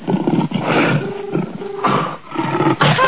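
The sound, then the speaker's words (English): A lion roars in a series of loud, rough, rumbling bursts, each roar swelling and breaking off before the next, filling the short recording with deep growling power. “The roar of the lion.”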